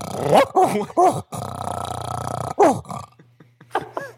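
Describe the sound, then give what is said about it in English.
A dog growls and barks in agitated bursts after an earpiece is put in its ear, with several sharp barks broken up by a sustained rumbling growl. A faint low hum runs underneath. “Did you just put the earpiece in your dog's ear? Yes, he just freaked out.”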